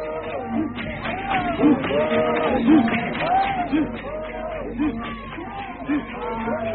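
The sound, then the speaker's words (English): A rejoicing, jubilant crowd walking in procession towards a lodge in the early morning: many overlapping voices chatter and call out in a steady, lively hubbub, with rising and falling cries repeating at a loose, regular rhythm. “The crowd fall into procession behind, rejoicing and jubilant.”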